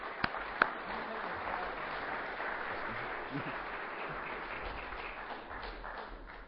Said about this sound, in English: Well, I want to give these guys a big round of applause.